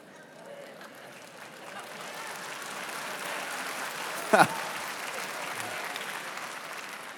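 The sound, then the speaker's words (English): A crowd claps steadily, the applause building from a light patter into a fuller, sustained wash of hands with one brief sharper burst midway, heard from within the audience. “You that clap fell right into this, all right?”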